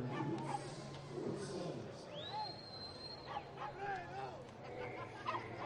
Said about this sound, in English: The dogs sure love that play. Barking up a storm now.